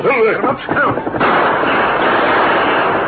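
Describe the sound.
A brief shouted voice gives way to a loud, dense burst of gunfire as the Lone Ranger and Tonto open fire in a surprise attack on a group of Indians shooting in a draw, many shots running together into a continuous crackling roar that holds steady until the end.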